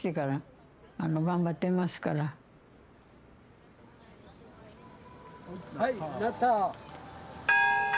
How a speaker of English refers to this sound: take hold of a rope and they toll the magnificent bell mounted in a tall belfry dominating the park.